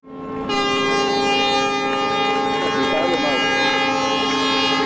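Deep, sustained ship horns blare loudly and continuously off the Italian island of Giglio, several overlapping tones forming a rich, droning chord that holds steady for the whole stretch, as the wrecked liner Costa Concordia departs on its final voyage on 23 July.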